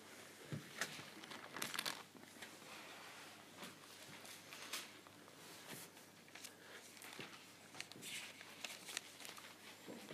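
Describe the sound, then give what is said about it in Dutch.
Soft paper rustling as book pages are turned back a few pages to Galatians chapter 6, a steady series of quick crinkly swishes and flutters with no voices. “Gaan we een paar bladzijden terug.”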